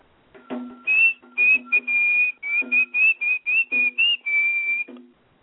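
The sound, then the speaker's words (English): A man whistles loudly as he walks slowly out of a playground with a guitar on his shoulder, a bright tune of short phrases broken by brief pauses, carrying on steadily for several seconds with no talking. “The man with the waxed mustache hoisted his guitar onto his shoulder and walked slowly out of the playground, whistling loudly.”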